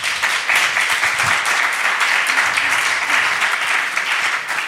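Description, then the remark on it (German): A crowd applauds steadily, many hands clapping at once in a dense, continuous patter that holds at an even, fairly loud level throughout without pause. “Klatscht mal jeder, der im Raum ist, der schon mal was mit Depressionen direkt oder indirekt zu tun hatte.”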